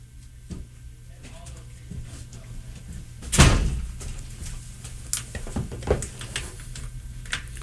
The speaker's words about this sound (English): So, sorry about that. I had to get up and close the door.